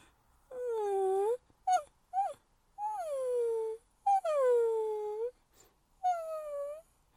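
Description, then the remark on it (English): A human voice imitates puppy whimpers: a series of about six high, nasal whines with falling pitch, some drawn out and some short yelps, with no speech. “And to complete that, don't make me do the puppy whimpers.”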